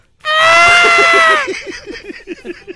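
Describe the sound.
A loud, strained scream of pain, given with a hard tug to pull out barbed wire, holds a single high pitch for about a second, then breaks into a quick series of choppy, gasping vocal bursts that fade unevenly.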